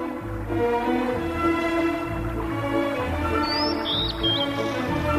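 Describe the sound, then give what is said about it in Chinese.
Bird chirps and short whistling calls ring out over a steady, low background hum, with a few bright tweets standing out near the end. No one speaks. “汉斯也听到了鸟叫声，但是他没有打走他们，只是静静地聆听他们唱歌。”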